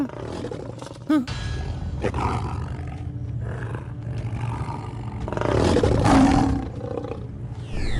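tiger roaring

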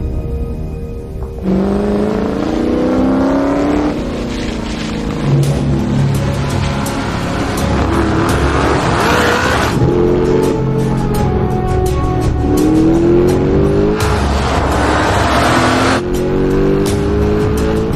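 car engine revving

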